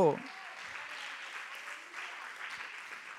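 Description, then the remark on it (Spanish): A church audience applauds steadily in praise of God, a dense wash of many hands clapping that holds throughout, with a brief voice at the very start before the applause takes over. “Pero gracias al Señor y dele un aplauso a Él.”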